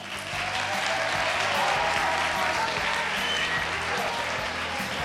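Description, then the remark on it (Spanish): Sustained applause from a large group of schoolchildren at Colegio Jaime Balmes in Fieza during a live radio programme, steady and dense clapping that fills the whole stretch at a loud level, with no voices standing out. “¡Un aplauso!”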